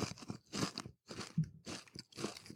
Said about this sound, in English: You're crunching into the microphone. What are you eating?